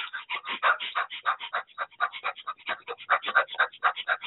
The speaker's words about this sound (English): So breathe in very fast in your nose and mouth, and I will try to mimic it